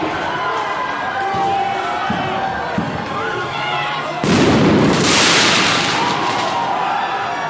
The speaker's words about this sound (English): Broken windows at the Atlanta Police Foundation headquarters. The people funding Cop City. Firework thrown.